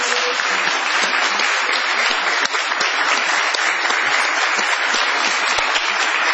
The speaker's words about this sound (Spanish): Venos aquí en el galponcito de Radio del Plata. Prolonguemos nuestra ovación para honrar a Patricio Barton.